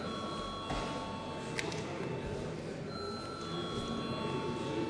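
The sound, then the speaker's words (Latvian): An electric bell rings without pause in a parliament chamber before deputies vote on a bill. It is a steady, buzzing metallic clang with bright sustained overtones that holds at an even level for the whole stretch, with no voices over it. “Paldies, lūdzu zvanu.”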